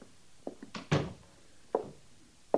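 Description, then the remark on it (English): A sergeant shuts the door of the post commander's office with a solid thump, surrounded by a few softer knocks and bumps spread over a couple of seconds, with no one talking. “Close the door, Sergeant.”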